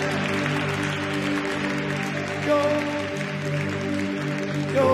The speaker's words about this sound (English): Hallelujah. Hallelujah. Let's celebrate God with a clap of him right now.